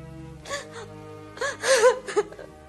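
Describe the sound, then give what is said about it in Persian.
A person cries in broken sobs: sharp gasping breaths and wavering moans rising in uneven bursts, with a quiet steady hum underneath. “چرا گریه میکنی آقا جون؟”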